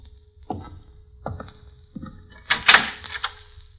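A door to the next room is worked open: a few sharp knocks and clicks from the latch, then a louder scraping, creaking swing as it gives way, with no one speaking.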